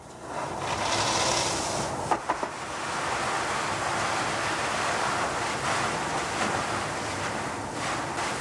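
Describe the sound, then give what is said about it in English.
Water blasts from a fire hose nozzle as firefighters open it, the hose fed by a pumper truck hooked up to a fire hydrant, in a loud, steady, rushing hiss that fills the whole stretch, broken only by a few brief knocks early on. No voices. “All right, crack the nozzle.”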